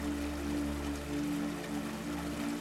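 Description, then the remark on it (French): A steady rush of flowing river water runs continuously throughout, even, with a low humming drone sustained underneath. “Son eau brille et scintille comme du cristal. C'est un cours d'eau magique, reflétant la pureté et la clarté de ce royaume enchanté.”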